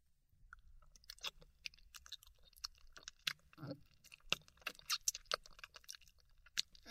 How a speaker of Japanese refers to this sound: このまま、もぐもぐごっくんしちゃうね。